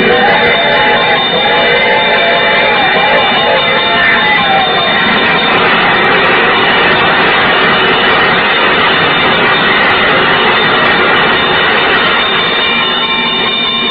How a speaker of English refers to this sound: There's the bell. Yeah? What's that, my dear? There's a train coming.